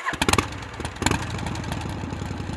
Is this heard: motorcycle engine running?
yes